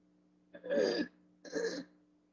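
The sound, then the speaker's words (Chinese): Two harsh, breathy bursts of coughing and throat clearing from a speaker with a cough at a Christian church gathering, fairly loud, the first slightly longer than the second, separated by a brief pause over a low steady hum. “好，那我今天也不能讲太多，因为咳嗽。”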